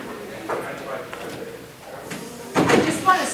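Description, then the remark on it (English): A door of a room with several people in it is shut near the end with a solid thump and a brief rattle, following a few seconds of soft shuffling and faint background murmur. “I'll just shut the door here for a minute.”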